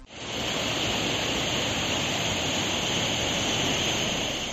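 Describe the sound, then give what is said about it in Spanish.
The Henares river rushes in flood through Guadalajara, Spain, swollen higher than in many years, a dense, steady roar of churning water filling the whole clip, loud and unbroken, with no voices over it. “Así bajaba el río Henares a su paso por la capital este fin de semana y ahora, crecido y abundante como no se recuerda desde hace muchos años.”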